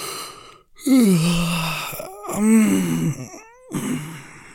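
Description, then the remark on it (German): Three long, drawn-out yawns from one person, each a voiced, moaning exhale that slides down in pitch, separated by short pauses. “Wenn du gähnen möchtest, gähne.”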